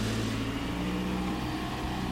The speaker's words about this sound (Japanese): 道幅は非常に狭いところですが、結構車が通る道になっておりますね。